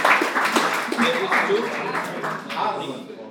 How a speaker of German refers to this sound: Wer will mal das hier? Da, Applaus.